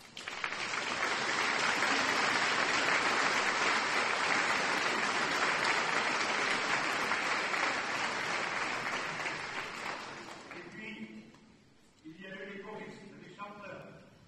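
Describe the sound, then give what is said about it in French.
A crowd applauds the choir leaders steadily for about ten seconds, a dense loud patter of many hands, then the clapping fades and a man begins speaking. “Ces chefs de chorale ont pris le relais de Jean-Michel avec le talent de chacun de vous demande de les applaudir.”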